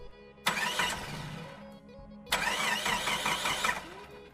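A DSB train engine roars on the way to Copenhagen in two loud, sustained bursts with a whining, rising mechanical tone, separated by a brief lull where a low rumble continues.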